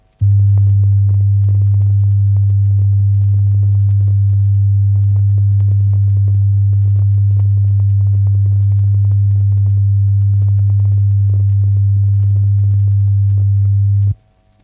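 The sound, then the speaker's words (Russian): A steady, pure low-pitched test tone, a recording for checking the phasing of left and right loudspeakers pushed side by side, hums continuously at constant loudness for about fourteen seconds, starting and stopping abruptly, with no voices present. “Для этой цели левый и правый громкоговорители надо сдвинуть вплотную друг к другу и, не нарушая предыдущие регулировки, прослушать запись чистого тона.”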